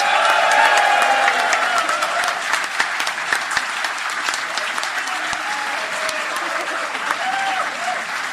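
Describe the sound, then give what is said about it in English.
A crowd applauds the Goblin King steadily, a dense wash of many hands clapping at full volume throughout, easing only slightly toward the end with a few cheers mixed in. “But another big round of applause, if you will, please, for the Goblin King himself.”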